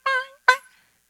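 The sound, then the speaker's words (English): A voice mimics two quick seagull squawks, one right after the other: loud and nasal, with nothing else around them. “my, like Nemo. The seagulls,”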